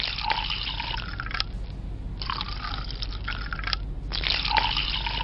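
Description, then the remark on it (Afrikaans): White wine glugs and splashes as it is poured into glasses, in three separate pours with short pauses between, fairly loud over a steady low background rumble. “Ek weet dis laat, maar ek is seker jy sal nie 'n glasie witwyn weier nie.”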